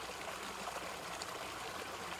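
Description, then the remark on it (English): Water streams steadily over rocks, a continuous bright babble of trickles and splashes with no pauses, filling the whole clip at an even, moderate level without any voices. “The sound of water over rocks is fractal light.”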